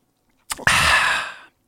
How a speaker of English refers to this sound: Smells like Sprite. I don't get a tea smell, right? Like, it's, if there's a tea smell, it's very gentle. Let's sip it.